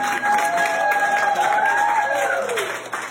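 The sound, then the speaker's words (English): Medical staff at Northwest Medical Center applaud steadily in a dense, continuous patter of claps as a discharged patient is wheeled out of the facility, with a faint tonal voice or whistle gliding and then falling underneath. “That's the medical staff clapping in a video shared by Northwest Medical Center as she's wheeled out of the facility.”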